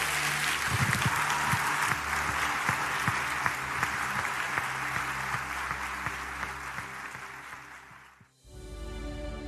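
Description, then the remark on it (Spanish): A church audience claps loudly and steadily for the Lord for about eight seconds, a dense wash of many hands with a low hum underneath, then the applause cuts off abruptly. “Démosle un aplauso fuerte al Señor en este día.”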